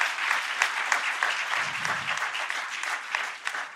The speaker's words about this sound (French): Est-ce qu'on peut applaudir ce que Dieu fait dans la vie de Marco?